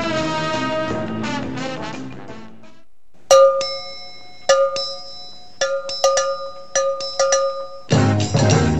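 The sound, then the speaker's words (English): Short burst of bumper music on the Phil Henry Show radio program: a full instrumental passage fades, then bright ringing cowbell-like strikes hit in an uneven pattern before the loud band kicks back in. No one speaks. “Really thinking about this bumper music, aren't we?”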